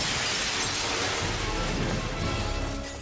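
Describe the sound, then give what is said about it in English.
A glass window shatters in a loud, dense crash as Batman and Robin make a dramatic entrance through it, with bright tinkling fragments raining down continuously for a few seconds, full across the whole sound. “Either you've never heard of a door, or you just like pulling glass out of your shorts.”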